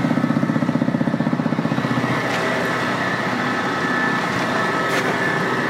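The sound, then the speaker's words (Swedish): A tractor engine idles on a farm with a steady, throbbing chug that pulses rhythmically at first, then settles into a continuous rumbling drone with no voices. “Ska vi hoppa av din traktor här och gå in i laggården?”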